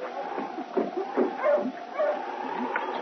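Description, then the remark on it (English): Several sled dogs of a dog team yip, bark and whine in short overlapping bursts over a steady background, moderately loud, with no one speaking, as the team, coming down from Dawson, stops in front of the trading post in Selkirk. “It was the first part of the following week when Sergeant Preston and King, coming down from Dawson, stopped with the dog team in front of the trading post.”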